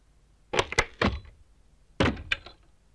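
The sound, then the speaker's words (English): A door shuts with a few solid thuds and rattles, then after a short pause comes a second burst of clunks and a sharp click as it is locked, fairly loud. “Lock the door? But of course.”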